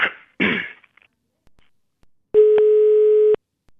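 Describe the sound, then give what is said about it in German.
A couple of short coughs, then after a pause a single steady telephone ringing tone buzzes for about a second, loud and clear, before cutting off into silence. “Einfach mal großes Glück haben und die Mutti vom René geht ans Telefon.”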